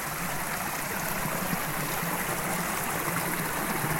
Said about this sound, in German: Nur ein paar Meter neben der Alphütte fließt der Dosbach durch. Er wird von allen Seiten her von kleinen Bächen gespeisen.